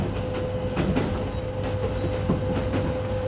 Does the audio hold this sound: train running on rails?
yes